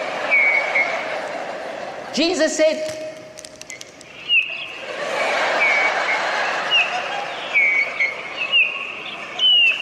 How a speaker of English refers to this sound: Listen to the birds.